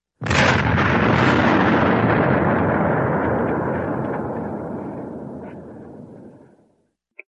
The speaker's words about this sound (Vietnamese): Một viên đạn pháo rơi ngay trên khoảng đất trống, một tiếng nổ, khoét một hố sâu, cái cột thành hình gãy đổ tung ra bốn phía, lại một phát đạn pháo rơi phía sau nhà.